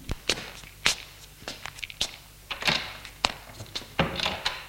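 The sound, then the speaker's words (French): Footsteps walk across a room and move away, a dozen or so uneven steps with soft thuds and scuffs, with no voices, as a man gets up and leaves the room. “se lève et sort de la pièce.”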